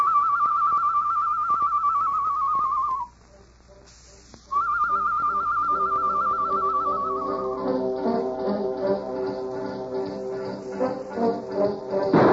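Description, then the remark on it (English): The character Tonto whistles a bird call imitation in the darkness: two long, steady mid-high notes, each sliding downward at the end, separated by a short silent pause. “Me make bird call, huh?”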